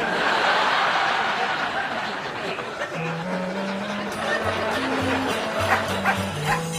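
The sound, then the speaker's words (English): A small poodle barks and yips in quick, high-pitched bursts against a steady, noisy background, with a few whiny, tonal yelps toward the end. “Of course, my dog's a poodle.”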